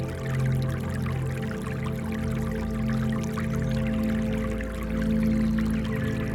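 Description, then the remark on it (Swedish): Holy spring water runs and gurgles steadily through a garden, a continuous trickling flow with a low hum underneath and no voices. “Men också det heliga vattnet. Från källan. Som rinner genom hela trädgården.”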